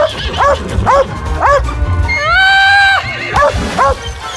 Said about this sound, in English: Wait, is that a chicken the dog is chasing?